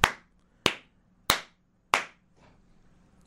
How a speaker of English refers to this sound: That's about the applause it deserves.